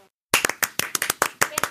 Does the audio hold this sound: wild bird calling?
no